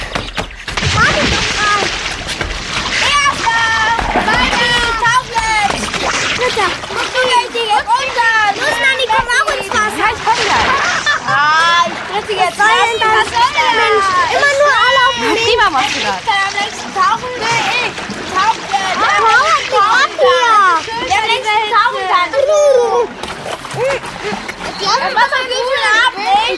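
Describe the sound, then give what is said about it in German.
Children shout and play while water splashes constantly at a swimming pool on a hot day, a lively, busy scene with overlapping young voices and splatters throughout, loud. “Jenny, Carlotta und Hanni kamen auch mit ihren Kindern zum Schwimmbad. Denn an diesem heißen Tag war Baden das Allerschönste.”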